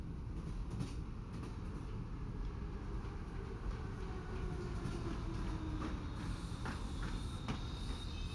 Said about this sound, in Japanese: ただいま準備いたしますので、停車駅に到着するまでしばしお待ちくださいませ。それではもう間もなく停車駅に到着いたします。